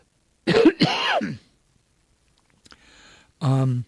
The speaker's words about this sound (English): Excuse me, I need to cough.